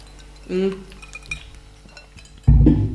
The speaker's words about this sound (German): Ja, Prost. Wollen wir Prost, erstmal prosten? Ja. Komm mal. Auf uns und den Urlaub. Ja. Auf den Urlaub, Prost, da draußen auch.